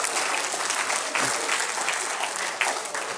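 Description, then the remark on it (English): An audience applauds steadily, a dense wash of many hands clapping at an even loudness for a few seconds, with no one speaking over it. “You didn't have to applaud, although I did deserve it”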